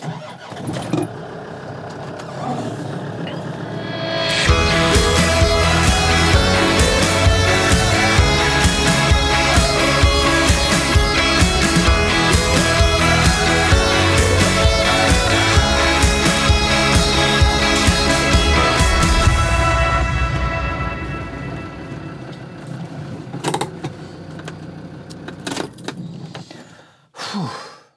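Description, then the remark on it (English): A car engine starts after a few quiet seconds, then runs loud with a steady rumble for about fifteen seconds before dying away into near silence, with a few faint clicks. “I'm about to spend the day on the road. This podcast is very definitely a mobile one.”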